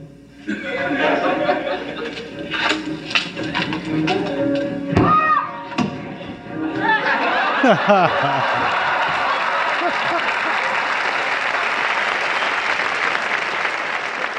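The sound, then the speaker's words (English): A studio audience bursts into loud laughter at Chevy's comedy, then breaks into sustained, dense applause that continues steadily to the end, with whoops and chatter mixed in. “You listen to the crowd there and they are eating everything that Chevy does up.”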